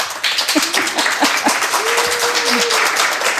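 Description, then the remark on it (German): A crowd applauds steadily as author Kat Mentschik is welcomed to present her new book, dense overlapping claps forming a loud continuous wash, with a few brief voices and whoops poking through. “Mit so ein bisschen gedachten roten Teppich, aber Applaus, läuft sich's doch gleich viel besser, oder?”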